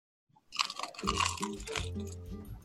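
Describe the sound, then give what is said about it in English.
A loud crunch as someone bites into a crusty bagel, followed by a few seconds of dense crackling and chewing with no voices. “Very, very, very crunchy.”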